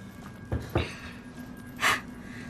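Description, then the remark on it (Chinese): A few heavy, breathy pants, short gusts of air at uneven intervals, with the last one the longest. They are moderately loud over a low, steady background hum, with no talking. “我觉得该喘气的是我呀。”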